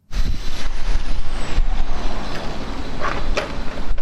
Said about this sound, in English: At this train depot in Darnitsia, in the east of the capital, Kyiv, engineers are taking on some major work, repairing a piece of rolling stock which took a direct hit in late August.